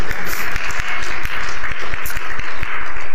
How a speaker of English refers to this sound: You can clap for that one. That's a good one.